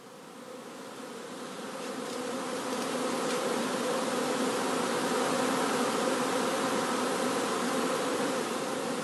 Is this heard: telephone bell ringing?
no